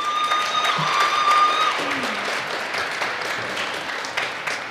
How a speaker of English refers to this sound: So round of applause for our OGS admin.